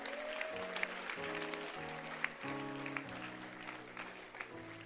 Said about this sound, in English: Let's clap our hands for him.